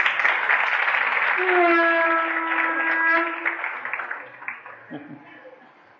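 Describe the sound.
A burst of group applause, dense and steady for about three seconds before tapering off unevenly, with a few children's voices calling out over the clapping.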